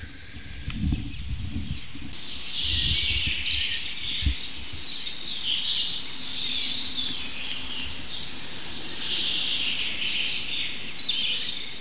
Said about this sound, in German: Und nähern uns mal dem ersten Buchfink. Und wir werden uns mal von Fink zu Fink hangeln und gucken, was wir aus diesem Richtmikrofon rausholen können, technisch.